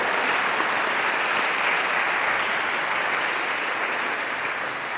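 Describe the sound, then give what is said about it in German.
Sustained audience applause for guest Florian Hartmann of RWTH Aachen, who stays on the stage: a dense, steady wash of many hands clapping at an even loudness for the full five seconds, with no voices standing out. “Aber Applaus gibt's trotzdem.”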